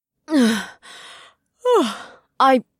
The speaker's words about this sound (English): the silence was broken by … loud yawn